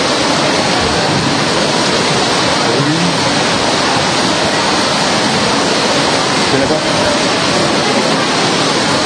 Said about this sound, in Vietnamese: Rồi mấy chị em lên, mau có mưa to.